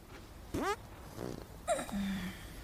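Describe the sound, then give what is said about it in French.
A quick series of farts: a squeaky rising toot, then a low buzzy rasp, and finally a short wobbly squeal trailing into a flat drone, with no talking. “Mais arrête tes conneries, je t'ai vu pousser.”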